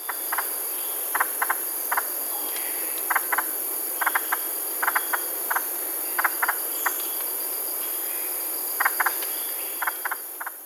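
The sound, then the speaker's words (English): A musician wren of the Amazon rainforest calling: short, clipped notes, often in quick pairs or triplets, repeated irregularly over a steady, hissing drone of insects, with no one speaking. “It's found in the Amazon rainforest, and there is a musician wren call, and I want you to listen to the difference between its call and its song, because it's quite remarkable.”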